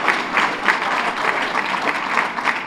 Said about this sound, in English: The people at MyoVision will be very glad that they got an applause.